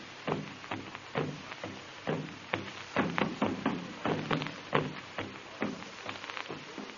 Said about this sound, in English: Drums made of hollow logs with skin stretched tightly over one end. Sometimes, human skin. Village after village takes up the message to send it booming farther into the night.